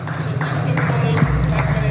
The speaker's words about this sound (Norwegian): Applaus for NHS under pandemien i 2020.